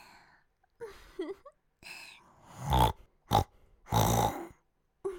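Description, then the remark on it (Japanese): A person imitates a pig, making several loud, nasal snorts and grunts in short irregular bursts, with softer breathy vocal sounds between them. “豚さんに似てますか？”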